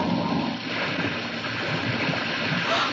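A car plunges into a river with a loud, steady rush of churning water that stays constant for a few seconds, with no voices.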